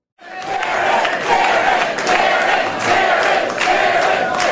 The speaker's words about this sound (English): Crowds cheering the victor in what turned out to be a red blowout in a campaign of record blue cash. Republican Karen Handel won her special election to represent the state's 6th Congressional District